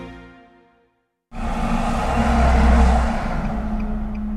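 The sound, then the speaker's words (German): A fading tone gives way to a sudden, continuous roar of vehicle traffic, engines rumbling and droning steadily as a seemingly endless stream of cars passes along the narrow two-lane main street of the village of Löcknitz in Western Pomerania, Germany. “Über die enge, zweispurige Hauptstraße des Dorfs braust ein scheinbar endloser Strom von”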